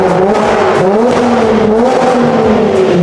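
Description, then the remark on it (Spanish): A modern Camaro muscle car with an electronically injected V6 engine revs up and down, its deep, throaty exhaust note rising and falling continuously for a few seconds, with no talking. “Y aquí tenemos un Camaro mucho más moderno, inyección electrónica, motor V6.”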